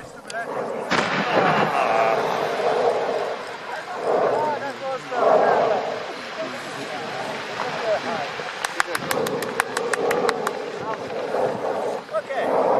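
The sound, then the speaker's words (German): An eruption in May of Mount Etna, Europe's largest active volcano, over 3000 metres high: a sudden loud blast gives way to a sustained rumbling roar, with crowd voices murmuring and a quick burst of sharp clapping near the end as people applaud the eruption. “Hör mal hier zum Beispiel den Ausbruch, der ist von diesem Jahr im Mai.”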